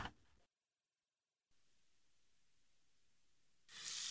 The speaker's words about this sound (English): Hey, is that a faucet running? Nope, that's not a faucet. That's a river rushing through the forest.